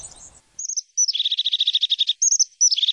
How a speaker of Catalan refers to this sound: És un moixonet d'allò més fi